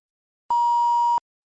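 A single steady electronic beep in a listening test, signalling that a recording is about to start: a clean mid-pitched tone lasting under a second, sounding clearly on its own with silence before and after.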